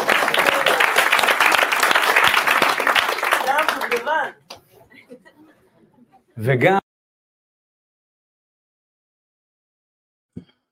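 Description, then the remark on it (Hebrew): An audience gives itself applause, breaking into loud, dense clapping for about four seconds before it thins to a few scattered claps. A brief loud burst follows, then near silence. “תנו לעצמכם מחיאות כפיים.”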